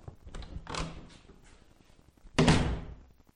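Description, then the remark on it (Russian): A door is pulled shut with a solid thud after some softer shuffling and handling noises, landing as one firm close near the end with no voices, as a man silently gets up and walks out. “«Вот за кем слежечку бы установить», — процедил Лосовский в сторону закрывшейся двери.”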